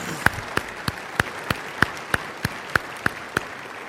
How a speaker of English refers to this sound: How about a round of applause for our business leaders and their opinions?